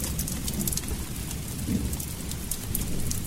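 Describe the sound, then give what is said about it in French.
Steady rain falls continuously, a dense hiss of drops with a low rumbling undertone like thunder, filling the whole stretch at an even, moderate level with no voices. “La pluie arrive plus tôt.”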